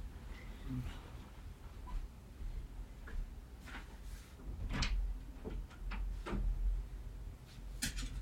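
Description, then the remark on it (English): A door being opened to go outside: a series of sharp clicks and knocks from the latch and frame, scattered over a few seconds against a low background rumble, with no one talking. “As I open the door, I'm going to invite you to breathe.”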